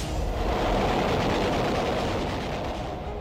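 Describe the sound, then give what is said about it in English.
A land-based warplane in a low-level attack on the U.S. fleet bombarding Okinawa, during the Battle of Okinawa: a loud, continuous roar packed with rapid, crackling bursts of gunfire, filling all three seconds without any voices. “A plane in a low-level attack.”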